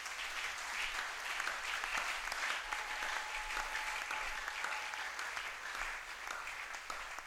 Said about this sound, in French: Est-ce qu'on peut bénir Dieu par les acclamations?